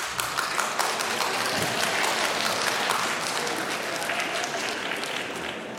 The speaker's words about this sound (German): Wer von denen, der jetzt oder die jetzt geklatscht hat, kann die Zahl Pi mit bis zu 11 Stellen hinterm Komma auswendig aufsagen, ohne Google? Wer klatscht denn da noch?